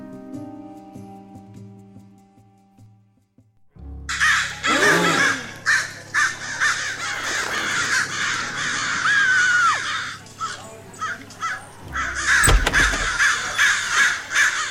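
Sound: crows cawing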